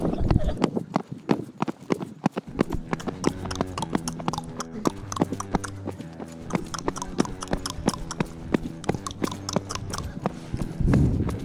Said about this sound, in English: He leapt bareback onto the horse, which was also bareback, and they ran away into the distance.